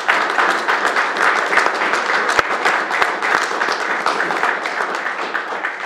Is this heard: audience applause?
yes